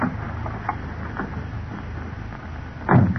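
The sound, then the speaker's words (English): The door of Britt's car, parked at the curb outside an apartment building at about 11 o'clock, opens with a few faint clicks, then shuts with a firm thump near the end, all over a steady low rumble of background noise. “It was about 11 o'clock when Britt and Cato walked out the front entrance of the apartment building and entered Britt's car at the curb.”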